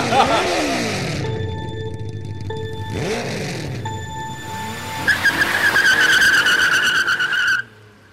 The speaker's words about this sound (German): Starten wir unsere Motoren, auf dass sie heulend erklingen in den nächtlichen Sternenhimmel.